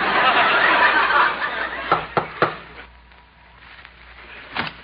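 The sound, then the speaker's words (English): Three quick, sharp knocks on a wooden house door in a steady rhythm, fairly loud, after a burst of hissy noise, followed by a quiet pause and one more faint tap. “I'll knock on the door.”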